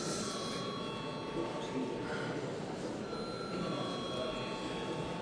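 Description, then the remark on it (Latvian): A parliament voting bell, rung when deputies ask for a vote, rings continuously for several seconds, a steady, rattling electric buzz with a faint high metallic tone, holding an even loudness without pauses and with no voices over it. “Deputāti prasa balsojumu, lūdzu zvanu.”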